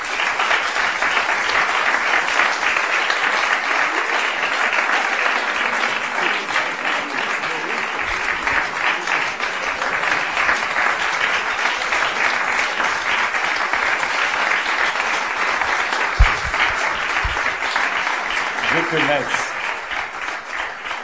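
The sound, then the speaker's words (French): Sustained audience applause for Fernando Arrabal fills the whole stretch, a dense, steady patter of many hands clapping at a fairly loud level, with a few voices briefly audible near the end. “Et voilà, donc le dernier des combattants, des héros du rire de résistance, Fernando Arrabal, que je vous demande d'applaudir.”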